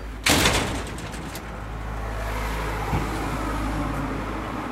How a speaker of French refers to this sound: Il va fermer la porte.